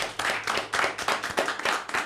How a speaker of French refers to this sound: Bon, en tout cas, merci à vous quatre, merci à nos invités. Ils promettaient d'être bons, ils ont été mieux que ça. On peut les applaudir bien fort, tous les quatre.